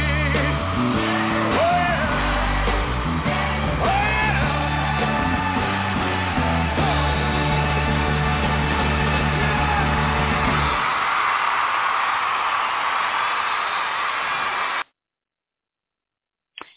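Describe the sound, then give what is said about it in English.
A crowd of women screams loudly and continuously for about fifteen seconds, shrill and overlapping on a muffled, lo-fi recording, then cuts off abruptly with a brief burst at the very end. “I know the screaming Mimis are contagious because these ladies had it too.”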